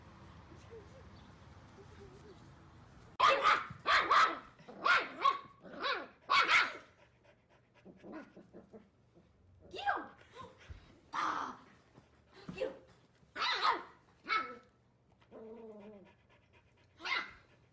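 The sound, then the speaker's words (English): A golden doodle puppy barks in a string of sharp, high yaps, quick bursts at first, then more scattered barks and a few whiny sounds toward the end. “He's a golden doodle.”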